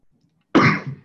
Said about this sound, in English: Excuse my cough, I have an asthma cough. I'll try to mute if it comes.